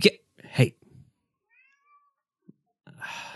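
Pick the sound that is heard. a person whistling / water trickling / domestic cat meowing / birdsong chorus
domestic cat meowing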